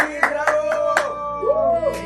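An audience claps to welcome a performer, in a steady rhythm, roughly four loud claps per second, over a sustained, humming tonal background that rises briefly near the end.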